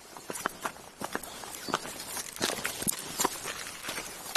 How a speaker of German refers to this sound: wir sind ja mit dir jetzt ein paar Schritte die Warmstraße runtergegangen und durch einen kleinen Gang zum Durchgang 46 gegangen.